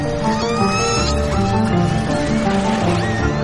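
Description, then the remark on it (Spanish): Calls of the A clan of orcas, picked up by 8 underwater hydrophones on an expedition among the archipelagos between Vancouver Island and southern Alaska: overlapping squealing, whistle-like cries with rising and bending pitches over a steady low rumble, fairly loud and continuous, with no talking. “En los micrófonos subacuáticos se oyen los cantos del clan A.”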